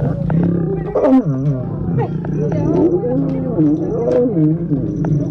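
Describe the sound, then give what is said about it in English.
A couple of lions mating on top of a safari tour Jeep growl and roar in deep, rumbling bursts that rise and fall, with loud guttural moans repeating over several seconds against a steady low engine hum, recorded by tourists on cell phones. “When a couple of lions jumped on top of the Jeep and started getting it on, the tourists hit record.”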